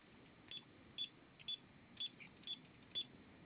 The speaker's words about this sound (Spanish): Ok, apóyame presionando en su teclado de alarmado 3 veces gato asterisco 1, asterisco 5, perdón.